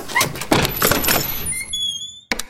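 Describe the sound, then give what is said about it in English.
A ring of keys pulled from a pocket jingles and clinks for a second or so, then a barred pawn shop door in a cellar lets out a thin, drawn-out squeak, ending in a sharp click. Fairly loud, no voices. “O'Connor pulled a ring of keys from his pocket and selected one.”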